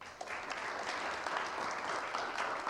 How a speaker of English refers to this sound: Let's give all of them a round of applause.